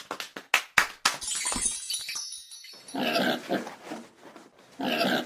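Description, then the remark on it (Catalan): A quick series of sharp crashing clatters, like glass breaking, gives way to loud, rough pig grunts and squeals in two bursts, with no talking. “Home, xinxetes, però si hem d'esperar que el porc es converteixi en pernil...”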